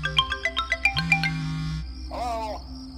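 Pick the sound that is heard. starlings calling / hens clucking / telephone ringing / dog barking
telephone ringing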